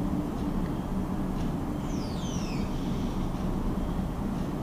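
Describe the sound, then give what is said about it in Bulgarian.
A couple of thin, high chirps from small birds singing sweep downward briefly, faint over a steady, heavy low rumble like wind or traffic. No one speaks. “Чуй тези птички, които пеят.”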